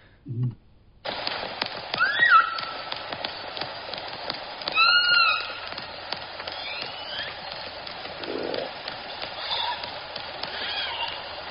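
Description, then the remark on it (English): Underwater orca calls and whistles from K-Pod, including the S16 call, rise in short bursts over a steady hiss, with scattered echolocation clicks ticking throughout; the calls come in a few separate groups. “So here's some examples of – here's one of our quietest background recordings where you get a nice combination of calls, clicks, and whistles.”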